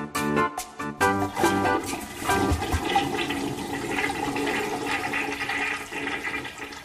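A toilet flushes with a loud rushing surge of water that swirls and gurgles steadily for several seconds, preceded by a brief clunk of the handle.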